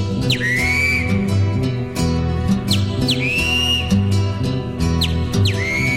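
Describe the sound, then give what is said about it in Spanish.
A great kiskadee calls three times at regular intervals, each a loud, sharp whistled cry sliding downward, ringing out clearly over steady background music. “Grita el bicho feo.”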